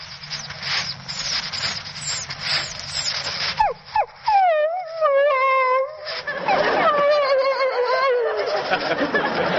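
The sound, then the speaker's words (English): A man's voice mimics a dog left behind and wanting to go along with its master, giving a string of high, wavering whines that slide up and down, then a drawn-out whimpering howl, fairly loud after a noisy start. “When a dog feels he is being left behind and wants to go along with his master, he'll sound like this.”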